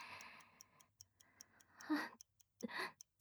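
A pocket watch ticks in a quick, steady rhythm, its crisp clicks running throughout while a soft breathy exhale and a short gasp rise briefly over the ticking.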